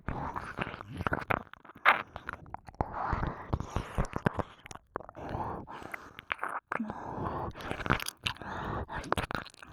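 Continuous wet, smacking mouth sounds of ear licking, with soft clicks, slurps and breathy moisture in an irregular rhythm, fairly quiet and intimate with no speech.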